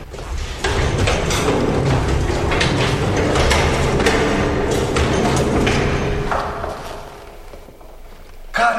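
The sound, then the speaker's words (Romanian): Heavy doors of a refrigerator holding meat, hot and humid inside, are pulled open with loud thuds, metallic rattles and scraping over a steady mechanical rumble, ending in a sharp knock. “Frigiderul ăsta e fierbinte. Ia. Da. E umed. Da. Ia. Ia, hai să-i deschidem ușile.”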